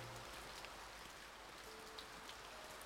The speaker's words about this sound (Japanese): また雨か。